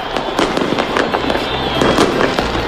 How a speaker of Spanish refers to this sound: Así han sonado los fuegos artificiales el día en el que se cumple el primer aniversario de la caída del régimen de Bashar al-Assad.